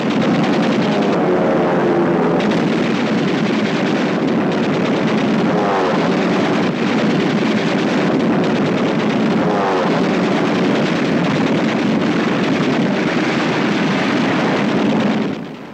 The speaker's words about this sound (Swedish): Tyska flygplan anfaller de framryckande finnarna med kulspruteeld, och striden tilltar i ursinne.